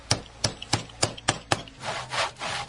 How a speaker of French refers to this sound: Ces coups de marteau et de scie que vous entendez viennent de l'atelier de tapisserie Burama Chekura Koulibaly.